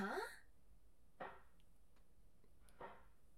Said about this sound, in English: Muffled slapping noises. Someone's in there and they're slapping something. Might be an ass.